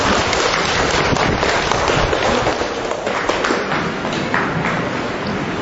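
A crowd breaks into loud, sustained applause for a visitor from Bảo Lộc, a dense crackle of many hands clapping at once that holds steady for several seconds without fading.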